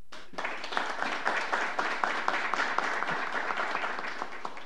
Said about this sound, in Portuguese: eu queria inclusive uma salva de palmas, vereador PC.